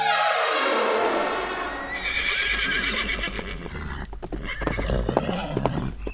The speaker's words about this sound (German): dann vielleicht sowas, wenn ein Pferd abhaut und die es zurückholen müssen.